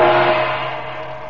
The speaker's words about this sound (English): The felucca, manned by Naji's Arab boatman, is moving slowly down the Nile toward her home.